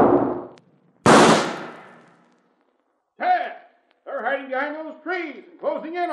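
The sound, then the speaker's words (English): Two loud carbine rifle shots crack out about a second apart in a shootout, the second ringing off with a long echoing tail, followed by men's voices shouting and talking. “Come on, get that carbine out of your saddle boot and use it.”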